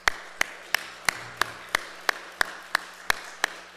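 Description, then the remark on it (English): An audience applauds the families standing with the members, a steady, even beat: about a dozen sharp, regularly spaced claps ring out over a continuous hiss of clapping, moderately loud, with no voices. “And I think that they deserve a big round of applause as well.”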